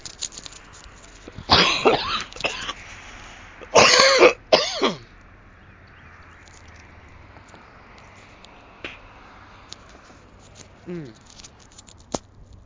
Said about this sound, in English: I'm going to cough now.